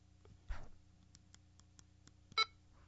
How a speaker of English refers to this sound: So I'm dialing this radio back down to where it beeps. Now you heard it beep.